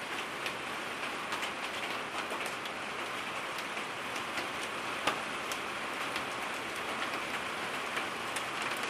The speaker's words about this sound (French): Aux prunes, je vais avoir plein de branches cassées. Au départ, c'était un simple orage de grêle.